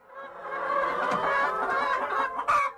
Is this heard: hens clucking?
yes